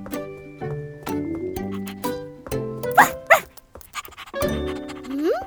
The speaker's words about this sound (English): Stay still, Snuffy. I need to dry you. But the dog is already scampering around the flat. Snuffy, you're all wet.